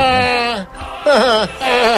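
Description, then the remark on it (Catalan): A person's voice bleats like a goat, three wavering, quavering cries in close succession, loud, with a short gap after the first. “Què li passa? Sembla una cabra, ara.”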